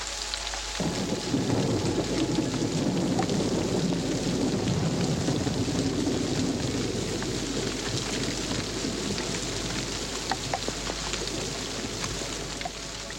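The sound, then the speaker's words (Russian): Steady heavy rain pours down throughout, with deep rolling thunder rumbling underneath from the start, a loud, continuous storm with no voices. “Тогда моя мать поднимается, и в природе начинается гроза.”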